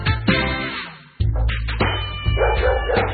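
A dog barks and yips several times in quick succession, fairly loud, with a steady low musical hum running underneath.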